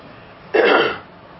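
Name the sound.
throat clearing and coughing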